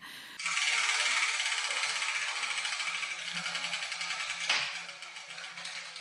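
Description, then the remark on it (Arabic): A prize wheel, spun by hand to pick the letter of the day, ratchets with a fast, loud stream of clicks that starts abruptly and runs steadily, then slows and thins toward the end as the wheel winds down. No one speaks. “أها، إذن نشرع بتحريك الدولاب لنرى حرف اليوم ومعلومة جدتي.”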